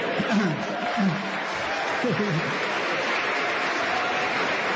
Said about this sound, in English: It shows, don't take up too much of my 1 minute clapping, please.